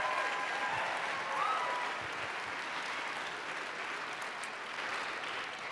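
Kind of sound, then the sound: crowd, audience round of applause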